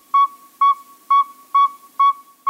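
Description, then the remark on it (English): A male northern saw-whet owl gives its advertising call: a steady series of five clear, high whistled toots, evenly spaced about twice per second, fairly loud with no other sounds. “Listen carefully to the pacing of their hoots.”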